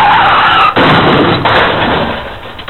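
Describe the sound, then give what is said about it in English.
A car's tires squeal in a skid, followed by a couple of heavy crashing knocks amid loud, rough noise that gradually fades. No one speaks. “Fred might like to see people crashing into one obstacle after another.”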